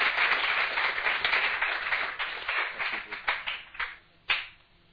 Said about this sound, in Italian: Signore, un applauso.